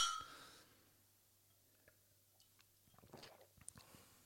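glasses clinking

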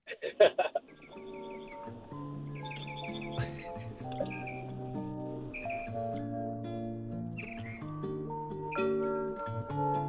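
birdsong

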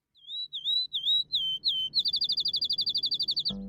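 small birds chirping

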